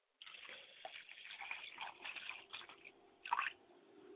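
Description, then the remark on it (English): Water splashes and gurgles as it is poured steadily onto the ground, a wet, squishy stream with a louder gush near the end. No voices are heard. “And pouring that water to the ground, I hope that it will take root in the hearts of all the men and women who are present here today, and that not one drop will be wasted, but it will be consumed by the hearts and the minds.”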